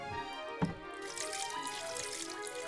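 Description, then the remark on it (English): Dew is wrung from a soaked fleece and runs steadily into a bowl, a continuous trickle and splash, with one brief knock near the start and no voices. “A bowl full of water.”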